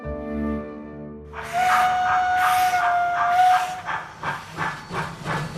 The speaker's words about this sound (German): Mit der Dampflok.